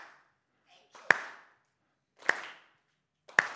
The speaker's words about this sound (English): And we're going to need you guys to clap along, and so I'll start us off, so it's going to go.